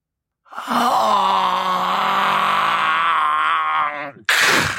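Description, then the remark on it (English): A single long, drawn-out groan from a 'meat clown' creature, low and strained, holding steady for several seconds before trailing off into a short, harsh burst of breathy noise. No words are spoken. “I could hear the groans, the dripping of the meat.”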